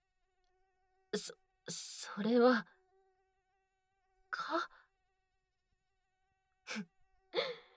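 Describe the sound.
A thin, steady whine of a single mosquito, let out of a bag, hums faintly throughout, continuous and unbroken, while a few short bursts of voice and breathy sounds cut in over it.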